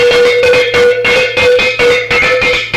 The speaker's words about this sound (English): We have the double iron bells.